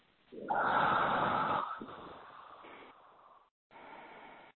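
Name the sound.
deep breathing exercise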